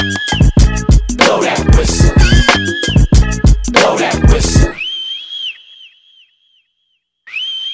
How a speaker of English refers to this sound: Get you if you don't blow that whistle. Blow that whistle. Blow that whistle.